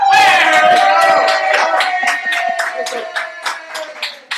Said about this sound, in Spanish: Y también tenemos la desgracia de estar acompañados en esta mesa por Chavo del Ocho. Aplauda, no sean ojetes.